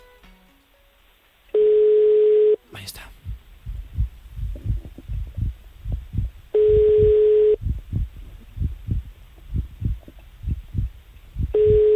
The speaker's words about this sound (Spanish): A ver. Estamos marcando. A ver si hay suerte. Si no nos coge, pues mala suerte. Nos tiene que coger el teléfono. Vamos a ver.